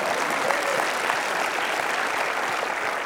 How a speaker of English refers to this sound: Come on, hallelujah. If you're going to give God a hand clap, give him a good one.